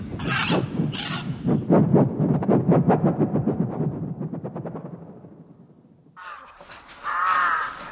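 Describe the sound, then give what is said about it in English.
A bird caws harshly and loudly, breaking into a rapid run of rasping calls that gradually fades, then lets out one more loud, drawn-out squawk after a brief pause. “I'm wrapping my towel around your eyes, you bird.”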